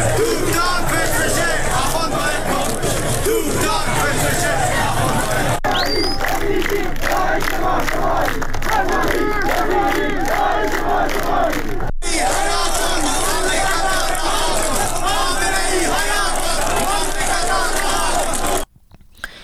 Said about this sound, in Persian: معترضان در زاهدان در 16 جمعه اعتراضات پس از نماز جمعه راهپیمایی کردند و شعارهای ضد حکومتی از جمله حکومت بچه کش نمیخوایم، سپاهی بسیجی داعش ما شمایی و تهرانی با غیرت حمایت حمایت سر دادند.